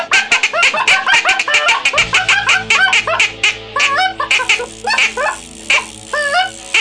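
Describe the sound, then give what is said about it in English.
A loud, dense chorus of snow goose calls from an electronic caller used for snow goose hunting: many overlapping high, yelping honks repeating rapidly throughout, with a low steady hum joining partway through. “That's why I have an electronic call when I'm snow goose hunting alone.”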